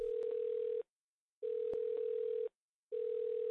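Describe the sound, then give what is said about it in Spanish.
A call to the 112 emergency telephone line rings before being answered: a steady electronic tone pulses on and off in three regular bursts with short silent gaps between them, clear with a couple of faint clicks. “Grabación de la llamada recibida en el teléfono de emergencias 112 el viernes 31 de agosto a las 13 horas 6 minutos.”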